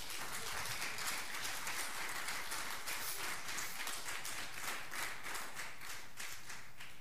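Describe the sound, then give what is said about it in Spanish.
A church audience applauds for the Lord steadily for several seconds, a dense, sustained wash of many hands clapping at once, even in loudness, with no one speaking. “¿Cuánto le pueden dar un aplauso al Señor por eso?”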